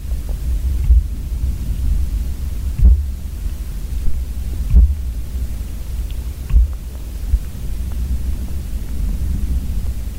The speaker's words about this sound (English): started banging on a tree. And you could hear the sound passing through the ground into the hydrophone